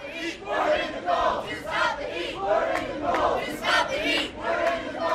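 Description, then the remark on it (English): A crowd of protesters shivering in their underpants outside a summit center in the cold morning shouts "We're in the cold to stop the heat" in loud, rhythmic bursts, many voices rising and falling together in a steady chant-like pattern with no single speaker standing out. “Something even odder, actually, when we arrived at the summit center this morning, another bunch of people shivering in their underpants outside the summit, shouting, "We're in the cold to stop the heat."”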